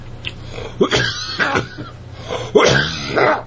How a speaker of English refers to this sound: excuse me, cough.